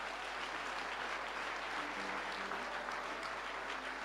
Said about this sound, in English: Clap your hands for Jesus, somebody.